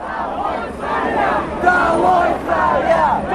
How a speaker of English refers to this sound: Down with the Tsar was a chant from protesters there in Moscow.